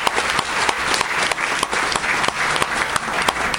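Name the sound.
audience applause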